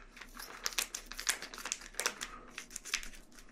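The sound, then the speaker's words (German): A plastic mozzarella bag crinkles and rustles in dense, irregular bursts of sharp crackling, steady for several seconds as it is handled and pulled open. No one speaks. “Wie kann man denn so lange brauchen, diese Mozzarella-Tüte zu öffnen?”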